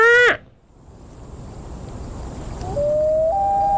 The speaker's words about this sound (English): Let's go to the YouTube. We got to know what a loon sounds like. Stupid Canadian wolf bird.